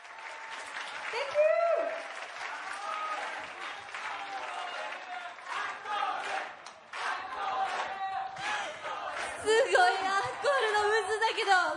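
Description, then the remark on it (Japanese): A crowd claps and cheers steadily for several seconds after a singer's live mini-concert performance, with whoops and shouted voices rising over dense applause that swells again toward the end. “素晴らしいパフォーマンスに大きな拍手をお送りください。”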